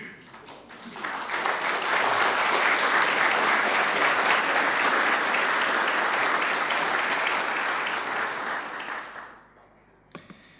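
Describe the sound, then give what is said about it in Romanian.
An audience applauds once more as parents present their baby daughter. The clapping is steady, dense and loud for about nine seconds, then thins and fades out, with one last faint clap near the end. “să mai aplaudăm o dată.”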